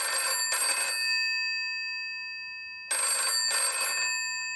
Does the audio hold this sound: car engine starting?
no